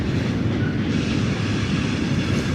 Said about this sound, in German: Der Zug ist auch gleich vorbei.